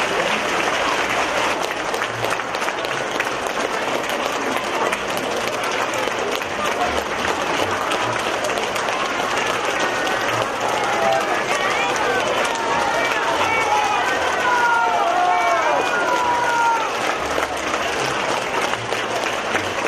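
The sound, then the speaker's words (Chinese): Sustained, enthusiastic applause from a large audience at a Buddhist dharma assembly in Taipei welcoming Master Lu Junhong, a dense steady wash of clapping lasting the full twenty seconds at constant loudness, with a few faint whistles or cheers rising above it midway. “下面让我们用最热烈的掌声恭请尊敬的卢军宏台长。”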